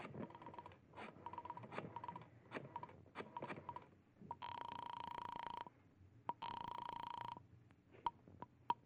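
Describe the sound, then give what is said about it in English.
A telephone handset is lifted with a clatter, followed by rapid clicking of dialing, two sustained buzzing tones, and a few final clicks. Fairly loud, with no talking. “You remove your gloves, survey the room quickly, and then you go to the phone.”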